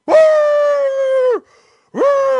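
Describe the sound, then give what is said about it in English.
A man's voice mimics a Bernese Mountain Dog barking in a hotel hallway, letting out a long, drawn-out bark that sags in pitch at the end, then a short gap before a second loud bark begins. Clear. “And I'm walking along, snapping my fingers, and I start hearing barks.”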